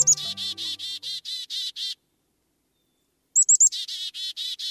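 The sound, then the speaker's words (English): Black-capped chickadee calls as an adult flies to its nest in a long-dead tree trunk carrying insects for its chicks: quick, high-pitched chirping notes repeated in a rapid run, a brief silence, then another clear burst of the same calls. No voices. “An adult black-capped chickadee flies in toward its nest, carrying a beakful of fresh insects.”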